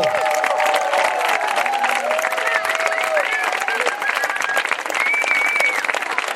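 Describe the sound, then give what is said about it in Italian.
Warm, sustained applause from an audience welcoming a team, a dense steady patter of many hands clapping throughout, with scattered cheers and a few high whistles rising above it. “mentre noi li accogliamo con un calorosissimo applauso.”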